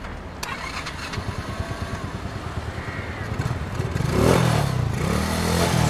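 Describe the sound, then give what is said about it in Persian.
A motorcycle engine chugs at idle with a steady, rapid, low thumping, then revs up and rises in pitch over the last couple of seconds, loud throughout. “آقا این موتور مال شماست؟ بله باست منه. میشه جا به جاش کنیم منم ماشینم پارک کنم؟”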